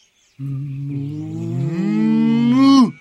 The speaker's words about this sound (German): Die Kuh und ihren Sohn, den kleinen Stier.